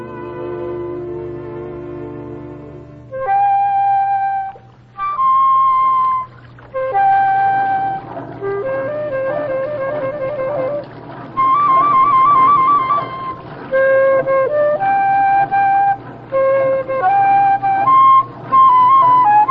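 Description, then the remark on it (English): A flute plays a lilting melody in short phrases of held and quick notes, separated by brief pauses, clear, after a few seconds of a sustained low chord. “Play that flute of yours, don't you”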